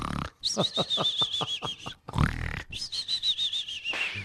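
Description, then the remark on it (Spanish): A voice imitates cartoonish snoring, as if a penis were snoring, alternating a rattling, snorting inhale with a high whistling exhale, twice in a row. It is fairly loud, with no other talk. “Si el pene roncara.”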